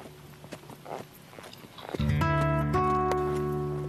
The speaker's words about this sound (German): Ganz geschmeidig schwingst du dich auf den Sattel, nimmst die Zügel locker in die Hand und trabst mit deinem Pferd los.